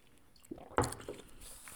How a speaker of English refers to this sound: I'm gonna take a sip of my whiskey right now. Hold on, boys.